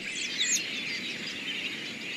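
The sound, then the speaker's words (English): Several high, thin robin calls from a flock ring out in the first half-second, followed by a steady wash of fainter chattering and hiss in the background. “Imagine what the world looks like to a wandering flock of robins on a dreary winter day.”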